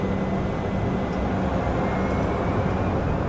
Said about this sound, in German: Das Flugzeug vom Typ Cessna Caravan erhebt sich von einem kleinen Nebenarm des größten Stroms der Erde, nur wenige Kilometer von Manaus entfernt.